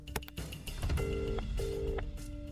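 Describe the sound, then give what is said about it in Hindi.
A phone call to Digambar Sahab is dialed and rings unanswered, with a few quick clicks followed by two steady electronic ringing tones in a repeating pattern, over a low, rumbling background. “ओहो, दिगंबर साहब भी फोन नहीं उठा रहे हैं।”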